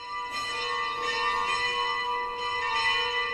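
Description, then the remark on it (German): Church bells at the Benedictine monastery of Kermusa in Senegal, West Africa, ring out continuously on a Sunday morning to announce the 10 o'clock mass, their layered, sustained tones overlapping with new strikes every second or so, sounding full with no voices present. “Glocken kündigen die 10 Uhr Messe an.”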